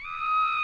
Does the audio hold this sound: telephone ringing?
no